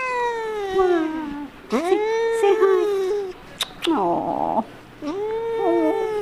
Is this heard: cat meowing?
yes